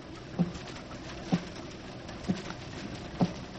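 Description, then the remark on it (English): Four slow, evenly spaced taps on a door, fairly soft, with a steady hiss of rain continuing underneath throughout. “Sounds like someone is tapping on the door.”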